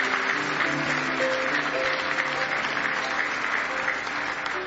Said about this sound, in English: Give the Lord a hand clap for that this morning.